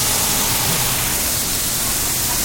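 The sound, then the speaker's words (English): A steady, loud sizzling hiss as a touch of water hits a hot pan of about 1.5 to 2 cups of onions and 2 tablespoons of garlic to steam and cook them, a continuous crackling steam sound with no talking. “We're going to add just a touch of water to that, and that's going to help it steam and cook those onions quickly.”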